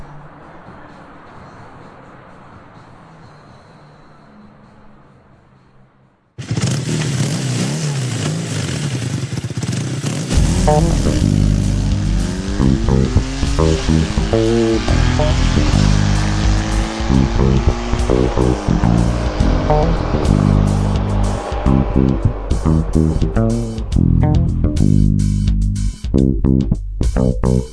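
After a few seconds of quiet low rumble, a motorcycle engine suddenly roars loud, revving with rising and falling pitch as Malyshev races it through the darkness toward a crossroads, only its headlight lighting the way, continuing strongly to the end.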